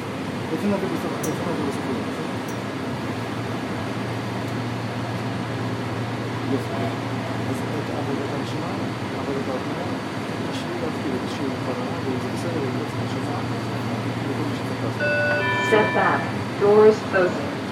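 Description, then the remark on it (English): Steady rumbling hum inside a Red Line subway car bound for Shady Grove, next stop Metro Center, with a low droning tone underneath, muffled voices mixed in, and a short rising electronic chime near the end. “This is a red line train to Shady Grove.”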